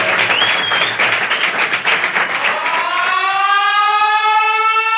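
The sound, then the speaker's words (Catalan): Loud, dense applause from an audience fills the first few seconds, then fades as a sustained, siren-like electronic tone rises and takes over. “Fort aplaudiment per Vivien Leigh, que entra al búnker!”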